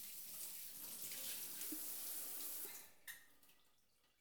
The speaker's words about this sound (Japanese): 左腕も泡を流して、左腕も泡を流して、肩から背中に湯を流して、背中に泡を、そのまま私の泡も流してしまいますね。